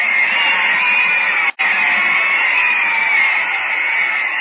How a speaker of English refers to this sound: The crowd is going wild, ladies and gentlemen. And so am I.